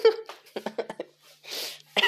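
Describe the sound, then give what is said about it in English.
A person voices a series of short, clipped throat gulps in quick succession, then a breathy rush of air, imitating the throat sound made when hiccuping. No words are spoken. “And you're sitting there, you're waiting for your next hiccup, and you're like, you know that sound that you make when you're hiccuping?”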